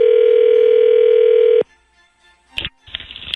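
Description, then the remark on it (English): A telephone ringing tone while calling the Fairmont Hotel in Pittsburgh: a steady, loud, low electronic hum holds for about a second and a half, then cuts off. After a short silence come brighter, crackly line sounds. “Calling the Fairmont in Pittsburgh.”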